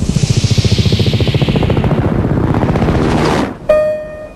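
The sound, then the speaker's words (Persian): A helicopter thunders overhead above people sheltering in a canal, its rotor blades chopping in a fast, steady rhythm under a loud engine roar, before the sound cuts off abruptly into a thin, ringing tone. “اول نقطه سیاه بود، وقتی اومد بالا سرمون دیدیم هلیکوپتره.”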